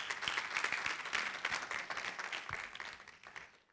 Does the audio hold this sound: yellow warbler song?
no